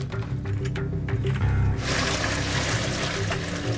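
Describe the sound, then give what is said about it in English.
Hot water pours and splashes steadily into an outdoor bath tub as its temperature is adjusted, a continuous rushing that swells into a broader, brighter gush partway through, fairly loud, with no voices. “Water's good and hot. I'm just adjusting the temperature.”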